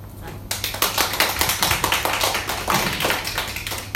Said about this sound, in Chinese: 连拍手都拍那种哈，阿来2266啊，台湾叫做滴滴答答，和老黑车一样。